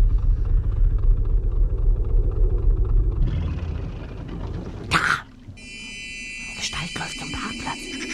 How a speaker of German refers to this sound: Ich kann schemenhaft ein Motorboot erkennen. Ja, jetzt sehe ich es auch. Es fährt ans Ufer.